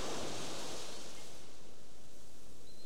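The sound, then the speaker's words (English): A steady wash of ocean surf fills the air, a broad hissing roar that swells at the start and slowly eases off, with no voices present. “Maybe notice the body receiving sounds from outside, the sound of the waves, the sound of your surroundings, the sound of my voice.”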